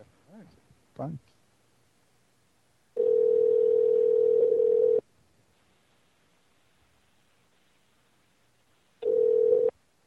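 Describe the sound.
An outgoing call's ringback tone as the Rear Naked Radio show phones a caller: a steady, buzzy electronic tone rings for about two seconds, pauses, then starts again before cutting off. A short voice fragment comes just before.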